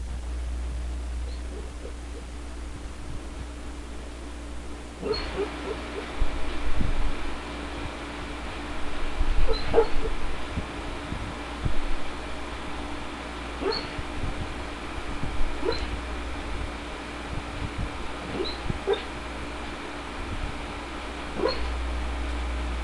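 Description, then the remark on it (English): A sleeping female dog, dreaming, lets out soft, intermittent whimpers and muffled little woofs, scattered every few seconds over a steady low hum, quiet. “I've never seen a dog who dreams so much.”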